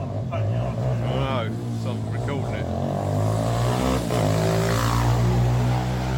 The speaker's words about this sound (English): Police have increased patrols in a part of Maidstone following reports of motorbikes and e-bikes being ridden antisocially. I'm getting sick of this.